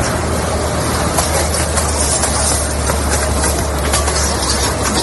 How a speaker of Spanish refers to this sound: Este es el momento en el que el agua arrasaba las calles de Dubái, llevándose por delante vehículos y estallando los cristales de los escaparates.